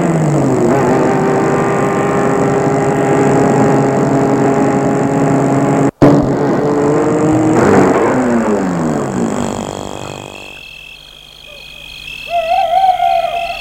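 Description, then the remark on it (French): A car engine hums steadily at night on a deserted street with few houses, then its pitch sinks as the vehicle slows to stop in front of a house and the motor cuts off, leaving quiet with a soft hooting call. “Il va arrêter la voiture devant la maison.”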